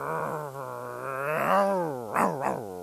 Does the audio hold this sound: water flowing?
no